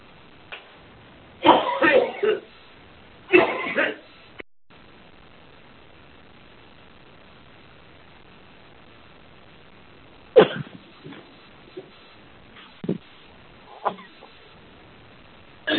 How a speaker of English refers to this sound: We can unfortunately hear someone who's coughing.